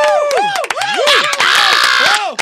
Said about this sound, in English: Who yelled encore? Don't do that. don't yell. You didn't encore.